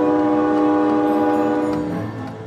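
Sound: steam engine train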